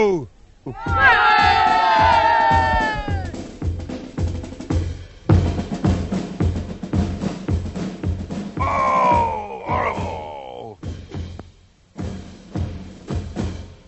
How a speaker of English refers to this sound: There you are. That's the street party here in Tottenham.